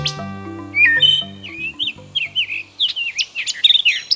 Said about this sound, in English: It's just after dawn in the piney woods of Georgia. Suddenly, from out of a hole 40 feet up in a large pine tree, pop four black and white birds. A family of red-cockaded woodpeckers is leaving their night roost.